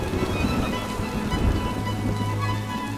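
Steady rain patters down without pause, a dense, even hiss with a low rumble underneath, constant throughout.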